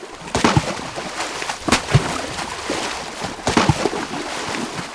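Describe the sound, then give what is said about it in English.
Dolphins hit their tails up and down on the top of the water, making sharp slapping splashes in three separate bursts, spaced irregularly, each a loud crack of spray rising above a steady wash of water noise. No one speaks. “Then, the dolphins start to hit their tails on the top of the water. Up and down, up and down.”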